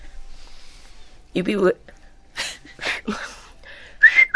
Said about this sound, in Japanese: 指笛 それ口笛です。